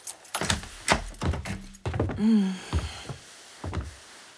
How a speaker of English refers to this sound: Here, let me get the door for you, babe.